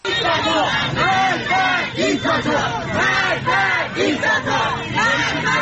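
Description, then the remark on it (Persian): A large crowd of protesters on Saturday evening in Mashhad chants slogans, including "Death to the dictator", in unison, loud and rhythmic, with repeated rising and falling shouted phrases over a dense, continuous roar of many voices. “تصاویری که در شبکه‌های اجتماعی منتشر شده گروهی از معترضان را نشان می‌دهد که شامگاه شنبه در مشهد شعارهایی از جمله مرگ بر دیکتاتور سر می‌دهند.”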